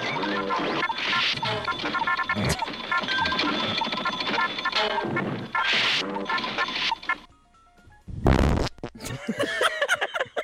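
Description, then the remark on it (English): A run of buzzy, sputtering electronic fart noises from a ticket computer as it spits out data rasps on for several seconds, breaks off into a brief quiet gap, then ends with a loud harsh burst and more crackly sputters. “I've never heard of a farting computer.”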